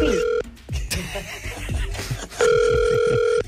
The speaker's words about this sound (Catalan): Estem marcant el telèfon de l'Andreu.